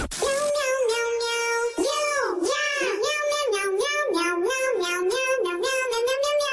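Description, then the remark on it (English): A person meows out a bouncy pop song melody, the voice imitating a cat with rising and falling sung "meow" notes in a steady rhythm, loud, with no other talking. “Just there's so many it's meows.”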